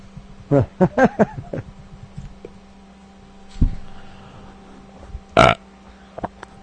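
A loud, drawn-out belch bringing up Golden Monkey breaks into a series of throaty, stuttering bursts, followed by a few shorter croaky burps and a final sharp gulp-like pop.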